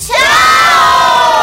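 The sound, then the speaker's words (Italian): A group of children at Dinamo Camp, the stars group, shout "ciao" together in chorus, one loud, drawn-out call of high, blended voices that rises quickly and holds steady for over a second. “Vogliamo fare un ciao in coro dal gruppo delle stelle, un grandissimo”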